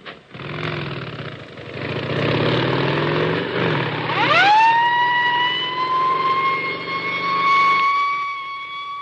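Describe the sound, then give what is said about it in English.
Sirens rise and wail over the rumble of police escort motorcycle engines heading to LaGuardia Airport, New York, escorting cholera vaccine in October 1947, starting broad and noisy, then settling into a steady, piercing siren tone. Loud, with no talking. “Motorcycle escorts to LaGuardia Airport, New York.”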